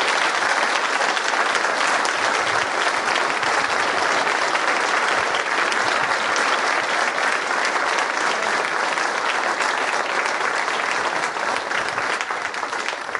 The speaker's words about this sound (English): So I just want to offer them a huge round of applause with our seniors.